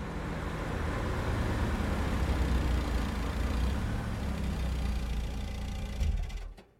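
A steady low rumble of a car carrying six people across the American West as a family moves from Maine to California, engine and tire noise droning continuously before fading out abruptly near the end.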